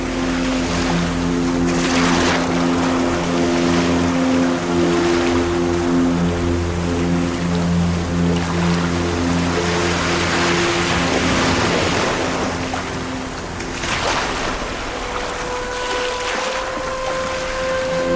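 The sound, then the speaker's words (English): Boat engines drone steadily as boats head out on open water into the night, a low continuous rumble with splashing waves and wind gusts, and a second engine tone rising and shifting near the end. No one speaks. “boats sail into the night.”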